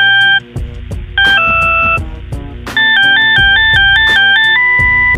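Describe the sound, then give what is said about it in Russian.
A telephone rings with a loud electronic melodic ringtone, bright tones stepping up and down in a quick repeating pattern over a thumping low beat, with no voices. “Телефонный звонок, и сразу забыт урок, который даже не начался, в памяти не отпечатался.”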